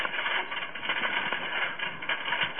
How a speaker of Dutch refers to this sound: Ik hoor nu zelfs de regen. Dat is geen regen, dat is volgens mij hagel. Wat ik nou op het raam hoor in de check.